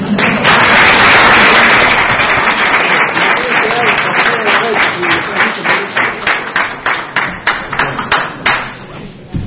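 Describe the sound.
Dense crowd applause, a special round for a man who helps organize, starts loud and steady, then thins out into scattered, separate claps that fade toward the end, with a murmur of voices underneath.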